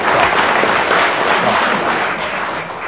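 An audience applauds loudly and steadily for about three seconds, a dense crackle of many hands clapping that tapers off slightly at the end.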